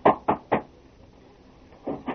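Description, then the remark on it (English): At night, Riggs knocks on the door of Jim Flood's home: three firm, evenly spaced raps, a short pause, then two more. The knocks are sharp and solid, with no voices. “We hear him as he raps on the door of Jim's home.”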